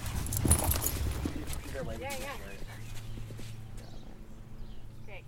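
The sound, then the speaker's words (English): A ridden horse's hooves thud softly on arena footing at a walk, then fall quiet as the rider asks it to stop and it comes to a halt, with a person talking. “And now we're going to ask him to stop by pressing your heel down and stretching your elbow back ever so slightly.”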